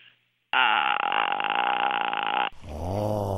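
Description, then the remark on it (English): A voice imitates the noise a car makes when the steering wheel is turned, a loud, steady, buzzing groan held for about two seconds, then shifts into a lower, wavering growl. “And you hear that as you're turning the steering wheel?”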